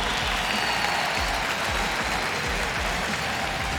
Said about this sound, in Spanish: ¡Tiempo! Un fuerte aplauso mientras se hidrata. Fuerte aplauso para los muchachos. Fuertes aplausos.